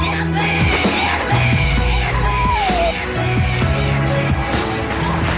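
Upbeat music from an advert with a steady beat, and partway through a recorded human scream cuts in over it, a wavering, pitch-sliding wail that rises then falls before the music carries on.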